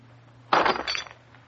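A glass is crushed underfoot, shattering in one sudden crunching burst with a brief tinkle of shards that fades within about half a second, over a faint low hum.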